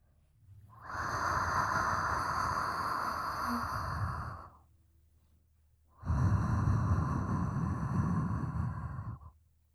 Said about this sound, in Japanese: 熱い吐息、感じますか？もっと私を感じてください。